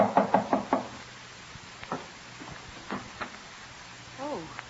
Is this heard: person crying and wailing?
no